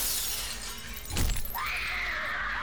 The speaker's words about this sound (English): Then suddenly, he heard a shattering of glass from the 10th story window above his head.